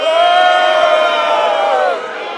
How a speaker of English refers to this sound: Many in the crowd were angry at organizers.